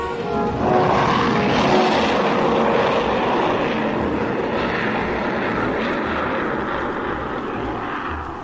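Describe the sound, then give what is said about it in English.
A huge freighter aircraft roars overhead, a loud, steady engine drone with broad rumbling noise that holds strong throughout and eases only slightly toward the end. “And little more than an hour after Jet had spoken to Frank, the huge freighter passed overhead.”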